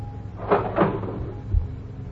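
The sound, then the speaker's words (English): A cash register drawer opens with two quick mechanical clacks and rattles, then a dull low thud as it slides out and stops. There is a faint steady hum underneath. “Open the cash register.”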